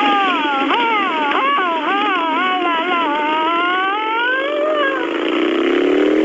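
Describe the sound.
A voice loudly imitates a police siren as the comedy character Mouth Siren Cop, with wavering, rising and falling wails that run continuously for several seconds and end in a long upward sweep, alone.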